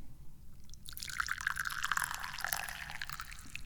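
tea being poured

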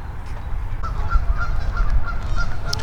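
geese honking

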